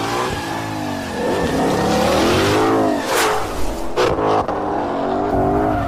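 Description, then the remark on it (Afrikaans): A Ford Mustang engine revs loudly, its pitch repeatedly climbing and dropping in throaty surges, with a couple of sharp bursts toward the end and no voices. “Ja, nou kyk op daai Mustang noot.”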